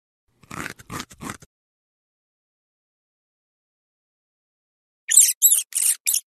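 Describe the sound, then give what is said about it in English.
Pet rats chewing: a quick run of soft crunchy bites, a long silent pause, then four sharper, brighter gnawing crunches in rapid succession. “The pet rats chew.”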